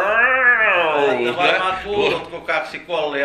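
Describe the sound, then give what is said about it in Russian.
A person imitates two cats standing facing each other and yowling, with drawn-out, wavering moans that rise and fall in pitch, sung continuously and fairly loud for a few seconds. “Слышали когда-нибудь, как стоят два кота друг напротив друга и...”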